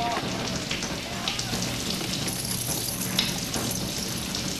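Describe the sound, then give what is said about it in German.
Steady, dense heavy rain patters down continuously and keeps getting heavier, a broad hiss of drops striking surfaces, with faint murmurs of voices mixed underneath. “Es regnet immer mehr.”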